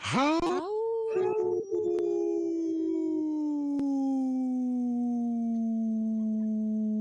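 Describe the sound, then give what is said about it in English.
A person on a radio show imitates a wolf howl: one long, sustained wail that swoops up at the start, then holds and slowly sinks in pitch for about seven seconds, loud and steady with no talking. “I could take a big big breath and do a howl for a very long time.”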